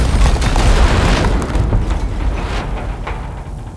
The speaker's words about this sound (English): You might think something like an explosion is recorded by just that, an explosion, right? But this is what a raw explosion sounds like. And then here's what a movie explosion sounds like.